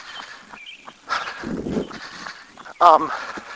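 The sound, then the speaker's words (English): A dog growls with a low, rough rumble at a person passing by, followed by a brief, louder yelping sound near the end, over faint outdoor background noise. “All right now, he's growling at me as I come back by.”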